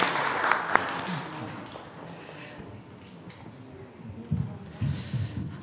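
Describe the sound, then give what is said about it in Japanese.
A church audience applauds together to bless the children at a Parents' Day thanksgiving service, a dense wash of clapping that swells early, eases off in the middle, then picks up again before fading, with no voices over it. “皆さん、もう一度子どもたちに祝福の拍手をよろしくお願いします。”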